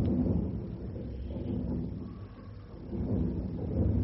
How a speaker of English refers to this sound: it sounds as though they're having a spot of trouble in the engine room